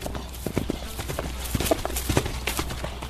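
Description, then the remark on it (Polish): Horses galloping two laps in a police-class riding lesson; the horses are young. Their hooves strike in a quick, uneven clip-clop rhythm with sharp percussive hits over a steady low rumble, sustained for a few seconds. “przygotuj się, zrobimy 2 koła galopem.”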